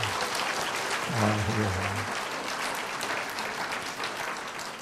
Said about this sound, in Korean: 박수 한번 쳐드리십시다.